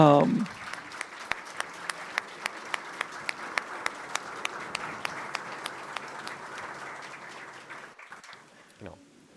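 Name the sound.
audience applause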